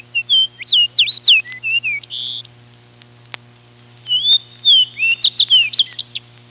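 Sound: fox sparrow song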